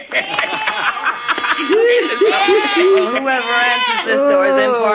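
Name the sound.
goat bleating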